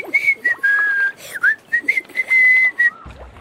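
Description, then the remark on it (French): A chimpanzee whistles a lively tune: a run of clear, sustained notes with quick upward slides between them, loud and unaccompanied, with no talking. “Et le chimpanzé se met à siffler de plus belle.”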